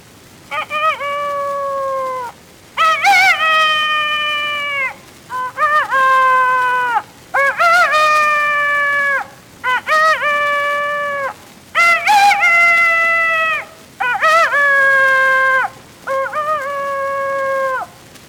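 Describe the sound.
A human voice imitates a rooster crowing, repeating about eight loud, drawn-out cock-a-doodle calls at a steady pace with short pauses between them.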